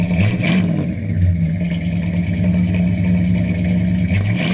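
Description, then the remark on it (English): A big old 1950s Cadillac V8 engine runs with a deep, steady throbbing rumble, briefly revving higher near the start and again at the end, with no voices. “When he listened to the engine sounds with his trusty stethoscope against the valve covers of the great 50s Caddy V8 or on the engine block itself, my father's eyes would light up with a knowing satisfaction rarely seen these days.”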